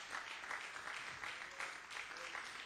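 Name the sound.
audience applauding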